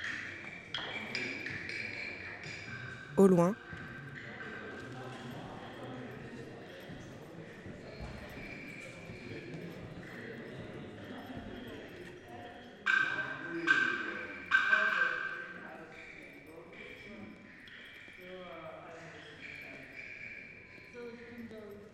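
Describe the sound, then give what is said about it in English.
Dry wooden knocks tap out a sparse, uneven rhythm in Tom Johnson's percussion piece Knock on Wood, with a few louder strikes standing out, while a voice speaks briefly near the start. “Tom Johnson, Knock on Wood.”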